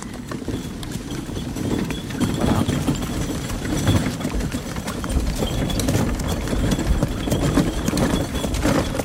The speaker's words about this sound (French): C'est la chasse. On est sur la route du Prince Royal. Bah, s'il vous plaît, quand même. Hop là, le cheval repart au trot dans l'allée.